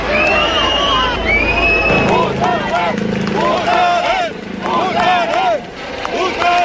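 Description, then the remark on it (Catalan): Many voices of people outside shout and chant at once against the Guardia Civil's police force, including chants of "Votarem", in a loud, dense crowd din outdoors, with overlapping yells rising and falling continuously throughout. “Per explicar i per replicar la contundència policial, molts crits de la gent que estava aquí a l'exterior.”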